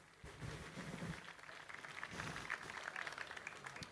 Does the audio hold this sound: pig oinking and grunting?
no